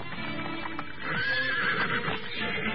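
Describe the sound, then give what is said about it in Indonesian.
A horse whinnies loudly while hooves clop and a horse-drawn carriage rolls to a halt in the front yard of a large house, with no voices present. “Dengan perasaan tegang, Utbah bin Al-Zam'ah memandang ke arah kereta yang ditarik kuda yang berhenti di halaman depan rumah besar itu.”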